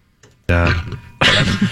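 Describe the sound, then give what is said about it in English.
A loud burp: a low, throaty voiced rumble that runs for under a second, then breaks into a harsher, raspier second burst right after. “That burp wasn't even that bad.”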